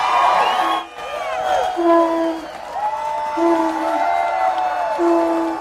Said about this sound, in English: The couple was greeted with cheers, applause, and the sound of a conch shell.